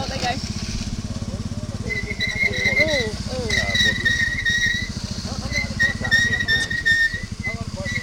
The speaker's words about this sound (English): stood around waiting for the bus to actually be out of the mud so that we can get back on. Is that our bus that's moved? It's moved, but it's got stuck again.